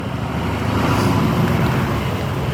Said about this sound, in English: Crossing the street. Up the curb. Big truck on the left.